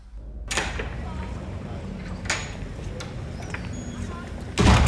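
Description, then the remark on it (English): A door is accidentally banged shut with a loud thud near the end, preceded by a couple of quieter knocks and clatters over a low background hum. “Oh, that'll be the door shut then.”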